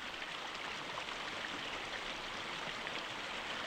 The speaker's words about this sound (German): Da war dieser Fluss. Tief unten schäumte er mit seinen wilden Strudeln.